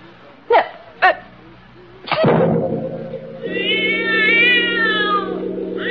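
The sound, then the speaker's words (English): A cat with yellow eyes lets out two short, sharp cries, then a loud, drawn-out meow that swells into a long wavering yowl, with no one talking. “The cat saw everything with its yellow eyes.”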